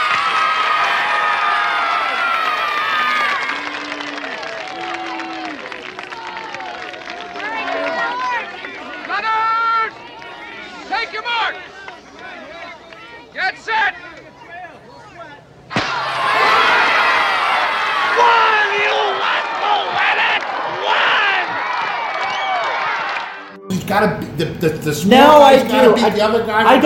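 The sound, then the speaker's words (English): A crowd cheers and applauds a contest winner with many overlapping shouting voices, a loud, continuous roar that swells twice and ends in a burst of noisy clapping and whoops. “Let's hear it for him.”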